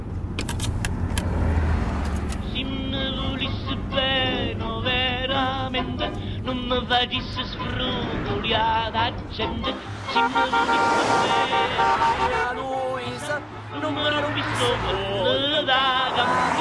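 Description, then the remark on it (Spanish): A car drives steadily along the road, its engine and road noise continuous beneath loud music from a CD playing inside, with a horn-like toot and voices mixed in. “Pone un CD mientras conduce.”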